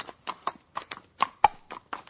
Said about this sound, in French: Le désert retrouvait alors le silence, et l'on n'entendait que le bruissement de soie des ailes des oiseaux et le pas tranquille de l'âne portant son précieux fardeau.